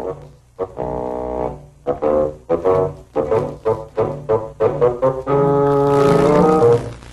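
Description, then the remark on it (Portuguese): A low, reedy bassoon plays a halting melody of short, detached notes, then settles onto a longer sustained note near the end, fairly loud with no voices. “Representado pelo fagote.”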